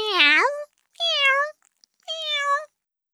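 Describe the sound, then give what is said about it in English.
Three high, clear kitten meows in quick succession from kittens playing with a toy mouse, each about half a second long with short pauses between, fairly loud with nothing else behind them. “The kittens are playing with a toy mouse.”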